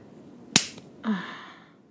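A single sharp slap of a hand against bare buttocks, followed moments later by a short voiced gasp from the person slapped. No speech.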